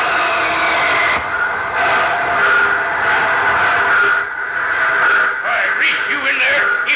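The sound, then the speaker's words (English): A train grinds along with steady rumbling and hiss, high metallic brake squeals rising and wavering near the end as it slows, fairly loud, with faint muffled voices underneath. “They're flagging you down. Slam on those brakes.”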